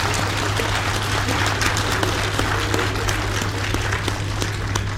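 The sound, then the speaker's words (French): A large assembly in plenary session breaks into sustained applause, adopting by acclamation the new electoral calendar put forward by President Déby. Dense overlapping claps hold steady and loud for the whole stretch, with a low steady hum underneath and no voices rising above it. “Mais par acclamation, donc adopté.”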